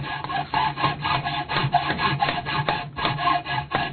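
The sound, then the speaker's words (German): A hand saw cuts through wood in steady, rhythmic back-and-forth strokes at an old wooden-boat shipyard on a dike, fairly loud, with a low hum underneath and no one speaking. “Ich höre Hämmern und Sägen.”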